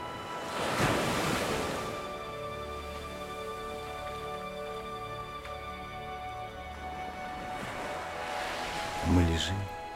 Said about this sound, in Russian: Океан тихо плещет у наших ног. Легкие волны, выбегая одна за другой на берег, касаются наших ног и тут же с тихим шепотом отступают.